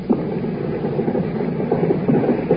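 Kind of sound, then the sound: machine gun fire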